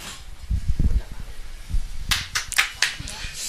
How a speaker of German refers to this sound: Applaus für die Frage. Ja, für die Frage.